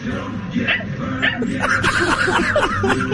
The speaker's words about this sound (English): Get Daryl Moose Johnston on the phone and there's just a little dog yipping over there.